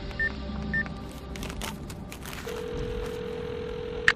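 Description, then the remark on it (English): Two short touch-tone beeps as a telephone is dialed, followed by a steady low electronic tone on the line and a sharp click at the end, with no one speaking. “Hey, you about done with that phone? Yeah, just about. One more call.”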